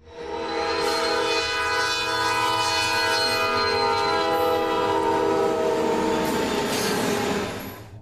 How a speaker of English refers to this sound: And it sounds like a freight train passing directly by us and is coming from every direction at the same time. We like are both freaked out. We look around all around us. There's no source of the sound.